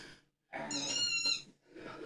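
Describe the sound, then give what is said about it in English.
A squeaky rubber chicken toy squeaked by Lola three times: a short squeal, a long wheezing honk with a high reedy whine, then another shorter squeak, all fairly loud and with no talking. “Lola's squeaking a chicken for him.”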